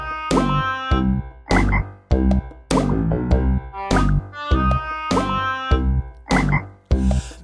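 A frog croaks loudly, a steady series of rough, throaty calls repeating every half second or so, with no voices around it.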